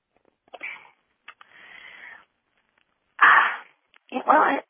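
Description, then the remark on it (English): A person clears their throat in a series of rough, breathy rasps, starting softly and ending in two loud, forceful bursts, with no talking. “Excuse me, I have to clear my throat.”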